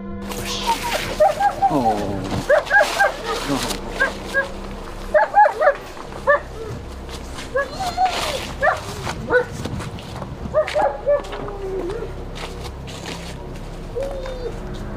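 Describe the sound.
An excited certified cadaver dog barks in repeated short bursts as its handler takes over, mixed with high-pitched whimpers and whines, while faint voices murmur in the background.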